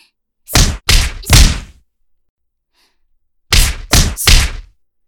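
A girl's punches land on an older schoolmate's face in two quick flurries of three, each a loud, heavy thwack with a short dull tail, separated by a brief silence; no one speaks.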